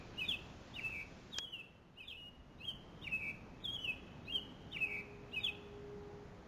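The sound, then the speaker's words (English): Robins living among trees sing in a steady series of short, bright chirping phrases, about eight in a row at an even pace, fairly faint over a soft outdoor background hiss with no voices. “To live among the trees, the robins have gotten used to seeing the people.”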